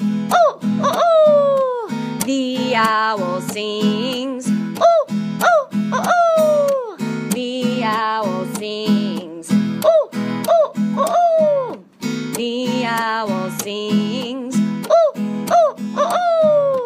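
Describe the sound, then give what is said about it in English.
Voices imitate an owl hooting, repeating sliding "ooh" calls in a steady rhythm over a loud musical backing with a clear beat. “All right, what about the owl? Ooh, ooh, ooh, ooh, here we go.”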